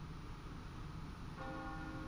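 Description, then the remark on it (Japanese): A church bell across a canal begins ringing partway through, its sustained tone rising over a steady wash of background noise, with no one speaking. “それでは運河を挟んで向かいにある教会の鐘が聞こえますと、ちょうど出発の時間になります。”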